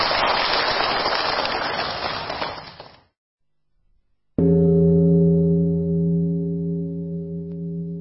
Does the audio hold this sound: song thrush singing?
no